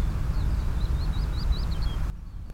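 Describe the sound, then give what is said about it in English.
A bird sings a quick series of high, repeated chirping notes for a couple of seconds in a park in Croydon, over a steady low outdoor rumble of background traffic. No one speaks. “I'm just wondering if I pause, we can hear the birds.”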